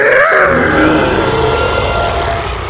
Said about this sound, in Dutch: De T-Rex had wel een gigantisch grote bek, maar dat betekent nog niet dat hij ook heel hard brulde. Veel mensen denken dat deze dino zijn grote bek opentrok en dan zo'n geluid maakte.